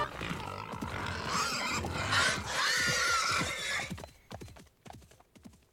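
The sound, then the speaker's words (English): A sudden burst of crashing through leaves as something large and pig-shaped bursts out, then a startled horse whinnies and its hooves clatter loudly before settling into a few scattered, softer steps. “We see a blur as something large and pig-shaped bursts from the leaves.”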